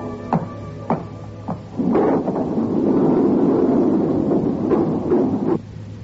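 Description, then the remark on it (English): A mechanical hum with a few sharp clicks, then a lift door rumbles and slides shut, rattling and clunking to a stop before the steady drone settles again. No voices. “As the door closed, I experienced that sickening, trapped feeling which I knew so well.”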